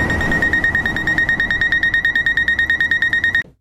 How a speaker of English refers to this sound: And that's right, a good catch, Stefan. That comes from traffic lights.